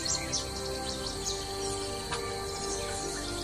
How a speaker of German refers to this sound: Da finden auch die Vögel ihre Nistplätze. Zwischen den Zweigen lassen sie ihre Stimmen ertönen.